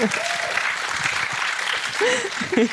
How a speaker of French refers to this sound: Applaudissez-la pour ça !